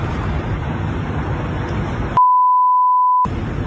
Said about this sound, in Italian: Parecchi beep ovviamente per la privacy naturalmente.